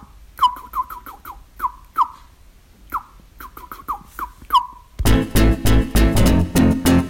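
birds calling

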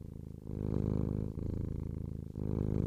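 cat purring

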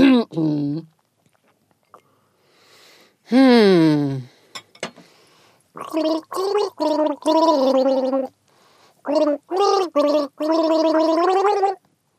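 gargling a song melody

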